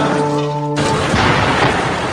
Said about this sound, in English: So how about these mysterious construction workers walking away from Building 7, hearing an explosion over the shoulder, looking back at the building, and then looking straight into the CNN camera and saying this.